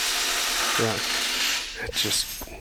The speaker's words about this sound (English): Just hammering away, making sure the rental fleet is up to par for when the season starts.